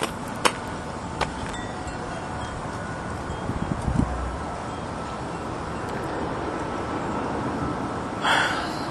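breathing into the microphone

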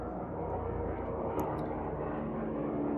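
helicopter flying overhead

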